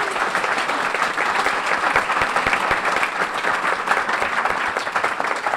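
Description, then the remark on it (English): An audience at the Providence Athenaeum applauds the panelists steadily, a dense, even wash of many hands clapping at once that holds at a strong, unbroken level throughout with no voices standing out. “A nice round of applause, please, for them.”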